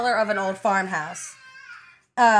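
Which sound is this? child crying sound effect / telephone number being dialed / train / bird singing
child crying sound effect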